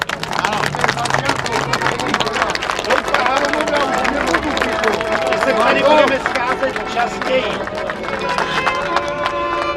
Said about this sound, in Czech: A chci potlesk. Děkuju.